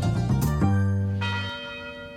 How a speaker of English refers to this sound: The University Tower chimes ring in another session of Ask the Professor, the radio show where you match wits with University of Detroit Mercy professors in an unrehearsed session of questions and answers.